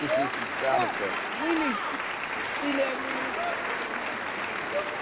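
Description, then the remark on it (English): An applause sound effect played in: a steady wash of crowd applause runs for about five seconds at an even loudness, with scattered voices and cheers mixed into the clapping. “Let me clap that up.”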